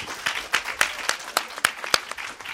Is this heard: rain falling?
no